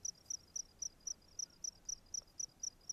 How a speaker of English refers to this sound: Here's another dusk where some weeks before I recorded myself playing with the crickets in the space between Mirralinki and Warman.